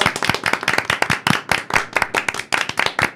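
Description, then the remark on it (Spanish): Applause from a small group: dense, rapid hand claps with a crisp, bright texture, fairly loud and steady across a few seconds, with no voices over it. “Sí, un aplauso, un aplauso.”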